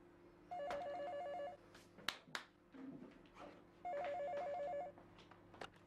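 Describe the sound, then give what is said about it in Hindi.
A telephone rings in two long bursts of rapid warbling trills separated by a pause, clear, with faint room noise and a few soft knocks in between. “उठो जाकर फोन सुनो।”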